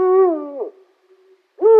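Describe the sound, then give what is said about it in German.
A deep, loud Eurasian eagle-owl hoot that slides slightly downward, followed by a short silence and the start of a second hoot, with no talking. “Und so klingt der Uhu.”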